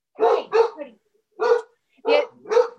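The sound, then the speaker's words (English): A dog barks five times in short bursts after a doorbell rang, first a quick pair, then a single bark after a pause, then another pair, loud. “The other thing, sorry, my doorbell just rang, so there's a dog barking.”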